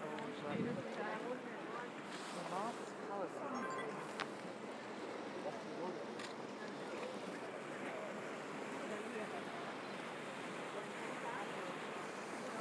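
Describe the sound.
A paddled, not motor-driven, gondola glides through water, with continuous sloshing and lapping, a steady wash of wind, and faint, indistinct voices in the background.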